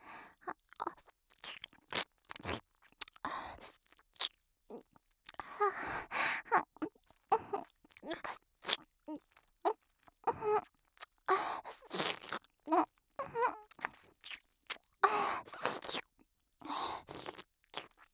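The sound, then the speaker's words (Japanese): Intimate ASMR ear-licking mouth sounds: a steady, irregular stream of wet smacks, slurps and clicks right up against the microphone, continuing throughout with no talking. “この真っ赤で可愛い耳舐めちゃおっかな。”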